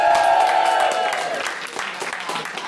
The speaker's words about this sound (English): I tell you, it's nicer being cheered than booed. I can tell you that much.